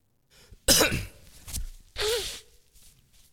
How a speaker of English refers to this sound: We'll pause. Wow. All right. You need a little background music playing while I clear my throat.